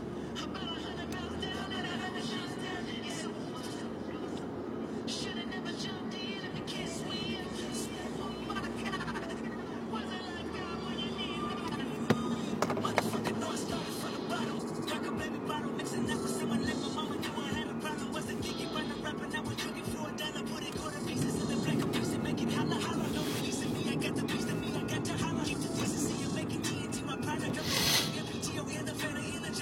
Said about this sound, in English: Understand what all this traffic is. Yeah, it's just too many cars trying to get in to San Francisco.